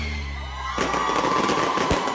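A fireworks rocket bursts with a sudden loud bang, followed by sustained crackling and hissing, a sharp pop near the end, and a steady low hum underneath; no one speaks.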